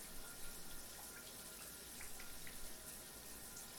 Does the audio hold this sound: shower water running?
yes